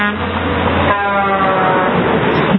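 A loud, sustained truck horn blares continuously, then shifts pitch slightly as it keeps sounding, with engine and road rumble underneath throughout.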